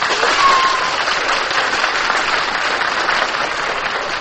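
audience applause

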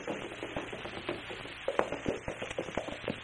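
horses' hooves approaching

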